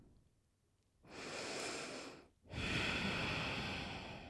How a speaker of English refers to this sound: Let me check. Okay. Breathe deeply.